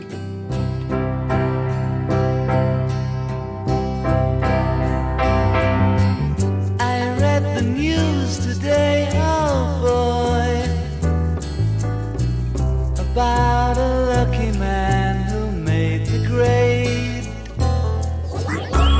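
A rock band song plays throughout, with steady drums, bass and guitars under a melodic lead vocal line that rises and falls, the music loud and continuous for the whole stretch.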